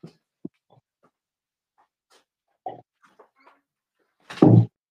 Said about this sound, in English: Let me close this door so she'll stop whining.